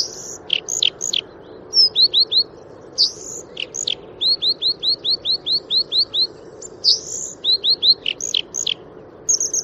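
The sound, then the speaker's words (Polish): A bluethroat sings in clear, varied phrases: bursts of sharp repeated chirps and whistled notes in quick rhythmic series, over a steady low background rumble with no one talking. “Natomiast już pod Opolem w rezerwacie staw Nowokuźnicki również wiosną, głównie w kwietniu można sobie posłuchać i jak się da to pooglądać podróżniczkę.”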